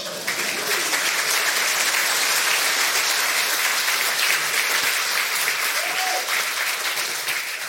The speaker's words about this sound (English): But it will be nothing like that clapping when we get to the Lamb's feast.